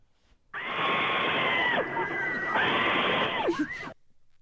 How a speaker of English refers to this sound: I assume you feel embarrassed when we play you screaming on a roller coaster or, when you hear your own things, it's like, ooh.